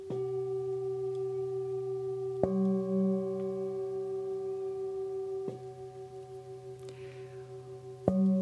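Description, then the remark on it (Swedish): Two steady pure tones sound together as a sustained musical fifth, humming continuously with faint clicks where the sound shifts slightly at a few points. No one speaks. “Och för dig som lyssnar, om du nu är väldigt musikalisk, så kommer du att höra att det här är en kvint.”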